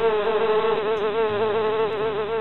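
A dense, continuous buzzing of a swarm of bees, steady, with a wavering drone that rises and falls slightly throughout, no voices present.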